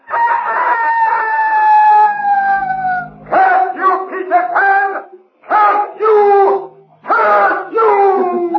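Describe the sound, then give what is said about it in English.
A voice imitates a rooster's crow as Peter Pan's taunting victory cry from the shore: a long, high, falling crow followed by several shorter, choppy crowing bursts, loud and clear with no other talk. “And from the shore came Peter Pan's taunting cry of victory.”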